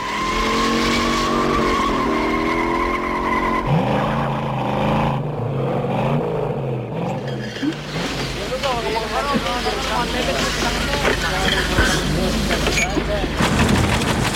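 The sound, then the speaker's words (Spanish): Car tires screech loudly over a roaring engine, the squeal rising and wavering in long sustained sweeps as the car peels out and speeds away, continuous throughout. “Y ahora, como tenemos kilómetros de noche por delante, tengo la esperanza de marcharme bien lejos, muy, muy lejos, tanto que ya tengo el buga en la puerta.”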